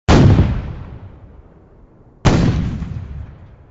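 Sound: cannon fire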